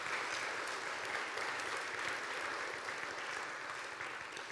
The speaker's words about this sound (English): And so, hey, let's clap it up for these ladies. Thanks for coming up here and bringing these babies with you.